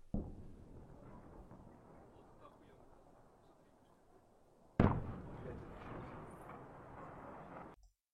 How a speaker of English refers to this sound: This is an angle from the explosion from far away.